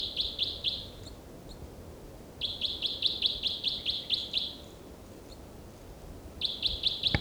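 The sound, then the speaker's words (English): A songbird, recorded and tracked as bird six, repeats bursts of high, evenly pulsed chirping notes in three song phrases separated by short pauses, over a low, steady background rumble. No one speaks. “Oh, six there.”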